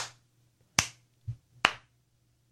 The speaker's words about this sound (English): Ah, slow clap. Slow clap.